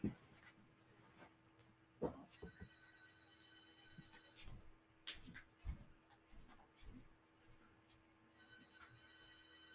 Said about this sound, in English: I'll be right back. I hear the phone. Let me answer the phone.